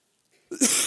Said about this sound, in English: Excuse me, I have a bit of a cough today.